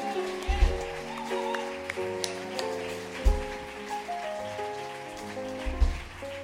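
A crowd claps steadily, a dense crackling wash of applause running the whole time beneath sustained musical tones and a few low thumps.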